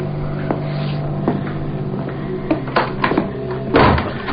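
A door is pushed shut, a few light clunks and rattles leading to one heavier thump near the end, all over a steady low droning hum.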